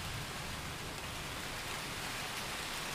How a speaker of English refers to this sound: Yeah, it rarely ever gets this thunder lightning shit in Seattle. But now we're getting it.